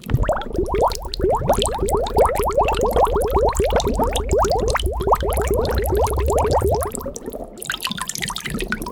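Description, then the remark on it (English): A glass bottle is dipped into a cauldron of yellow potion and fills with a rapid, steady run of gurgling glugs for about seven seconds, then settles into a softer, fizzing bubble. No one speaks. “She then took a glass bottle and dipped it into the cauldron, filling it with the yellow potion.”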